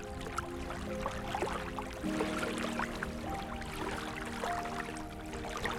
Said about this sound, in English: As you step into it, the brightness of the sun-drenched day fades into a comfortable darkness, and you hear it before it comes into view. The gentle lapping of waves against the shore of a large lake.